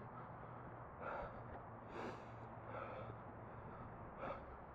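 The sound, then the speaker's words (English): Audible breaths drawn in and out at a steady pace, several sharp gasping inhales, with a low hum underneath and no talking. “Breathing, also ambience, in case you're wondering.”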